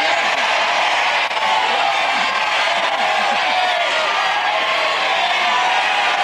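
A studio audience shouts its thumbs-up or thumbs-down verdict on whether a contestant should date or ditch, all at once in a loud, sustained roar of overlapping voices, a jumble of yells and calls that holds steady for several seconds without letting up.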